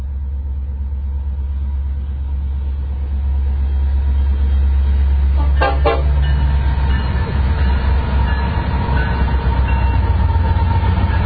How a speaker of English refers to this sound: We got a train to honk. It's this one appears to be an empty taconite train. These are small hopper cars, these two-bay hoppers, not covered, probably going back to the iron mines